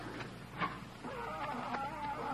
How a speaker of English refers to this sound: Listen. What's that? It sounds like a cat. That's the loudest cat I've ever heard.